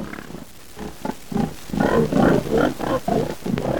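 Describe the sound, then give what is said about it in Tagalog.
A series of low, rough grunts repeats in quick succession, growing louder and busier partway through, as if several pigs are snorting together with no voices present. “Isa katao nakabati na siya mubantay ng iya kababujan.”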